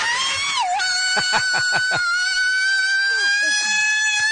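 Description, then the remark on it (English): A woman's loud, sustained high-pitched scream held for several seconds, its pitch dipping briefly near the start, with a few short choppy bursts like stifled laughter underneath. “Could we hear her scream one more time?”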